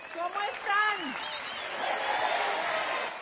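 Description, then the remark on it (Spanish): An audience breaks into steady applause as a speaker introduces his wife and three children, a dense, even wash of clapping that swells and holds for a couple of seconds after a brief burst of voices. “Un aplauso.”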